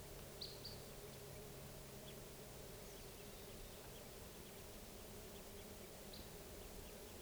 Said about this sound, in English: And I see three birds, and they may be sitting down near here. And they're in a lodgepole across the stream. Stop. Those birds are calling while they're in the tree. I don't see them, though.